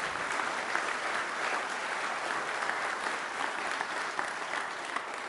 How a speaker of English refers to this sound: Thank you very much for clapping and clapping. Clapping and laughing.